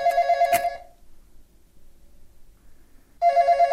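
telephone bell ringing

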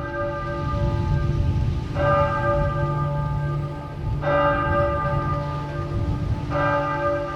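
church bells ringing

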